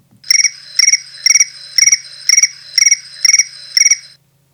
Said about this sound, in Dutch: Krekels.